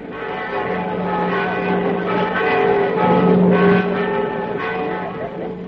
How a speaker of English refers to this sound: Don't fail to ring the bells to let me know all is well. I'll ring them myself.